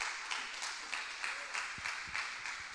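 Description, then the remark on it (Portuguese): An audience applauds God together, a dense, steady wash of many hands clapping with a loose rhythmic pulse, moderately loud, and no voices rising above it. “Aplauda Ele se você crê nisso.”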